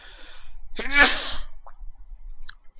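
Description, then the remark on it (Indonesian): A single sharp sneeze bursts out, a quick intake followed by a loud explosive release, then quiet with a few faint clicks trailing after. “alhamdulillah”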